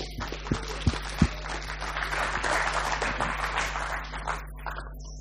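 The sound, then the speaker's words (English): A lukewarm round of audience applause welcoming a guest speaker, a dense patter of many hands clapping at moderate volume, rising slightly and then thinning out after about five seconds, over a steady low hum. “Thank you very much for that very lukewarm round of applause.”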